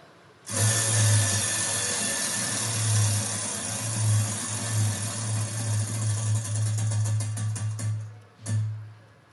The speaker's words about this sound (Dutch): Aan het rad willen draaien. Ja, daar ga ik al. Het rad van avontuur.